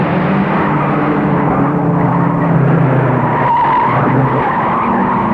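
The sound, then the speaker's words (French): An old car, after a three-hour drive, travels with a loud, steady rumble, its tires squealing and skidding as it brakes to stop at a restaurant, the noise continuous for the full few seconds with no voices. “Ce n'est pas marrant de faire des kilomètres dans une voiture qui n'est plus très jeune.”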